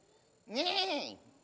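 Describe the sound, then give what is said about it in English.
A person imitates a horse's whinny with one wavering, nasal voiced call lasting about half a second, fairly loud, with no other talk around it. “Who can do a horse? Do it.”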